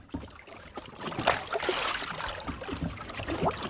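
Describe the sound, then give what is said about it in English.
Water laps and sloshes gently against the hull of a small boat tied to a yellow buoy on Lake Champlain in Vermont in the mid-afternoon, a steady wash of splashes and soft gurgles with no voices. “the haze floats over the dark green water as dive master Doug Jones ties his boat to a yellow buoy”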